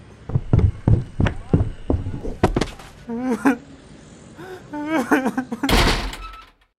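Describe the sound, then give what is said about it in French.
A rapid series of heavy thumps and bangs, then raised voices, followed by a loud door slam near the end, as a man grabs a slightly drunk cyclist by his jersey and throws him out the door. “Il attrape le cycliste par le maillot et le balance à la porte.”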